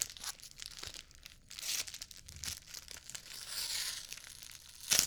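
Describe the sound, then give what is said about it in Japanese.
Plastic wrapping crinkles and tears as an onigiri is opened, a run of irregular rustling and ripping bursts with a sharper crackle near the end. No one speaks. “ね、私おにぎり開けるのめちゃくちゃ下手くそ。”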